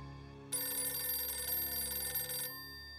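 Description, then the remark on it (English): A telephone rings in the Company B-2 orderly room at West Point on the afternoon of January 7, 1950: one sustained burst of about two seconds, bright and metallic with a rapid clattering trill, then cuts off, leaving a low background hum. “That afternoon, Cox received a phone call from a man claiming to be his old friend.”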